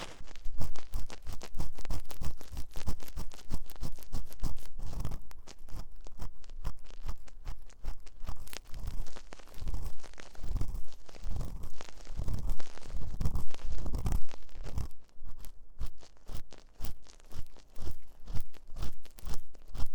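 Ear cleaning with an ear pick: a dense run of crackly scraping and crunching strokes in quick, fairly steady rhythm, loud and continuous, with no one talking.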